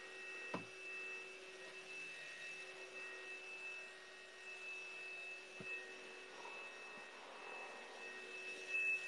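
A vacuum cleaner runs steadily throughout, a constant whirring drone with a thin high whine on top, fairly quiet and a little distant, broken only by a couple of brief knocks.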